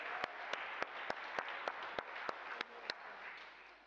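A round of applause: a steady wash of many hands clapping for about four seconds, with a few sharper, evenly spaced claps standing out. It's fairly soft and there's no talking.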